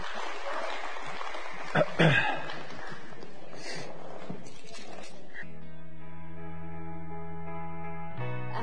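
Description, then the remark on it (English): A crowd claps and cheers in a dense, noisy burst of applause for tithes and offerings for about five seconds, then it gives way to steady, sustained keyboard chords. “Would y'all come give a big round of applause today for tithes and offerings today?”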